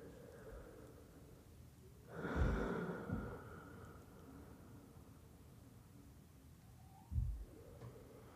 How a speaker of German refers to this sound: Du machst diese Atmung nicht, um etwas zu bewirken, um irgendwo hinzukommen, um etwas zu erreichen, sondern du atmest so, weil es gut tut, so zu atmen.